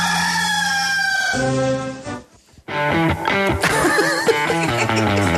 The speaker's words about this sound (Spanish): ¡Este es el gallo!